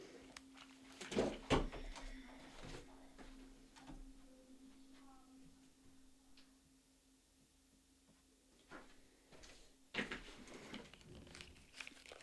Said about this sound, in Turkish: Bir saniye arkadaşlar, ben kapıyı biraz kapatmam lazım.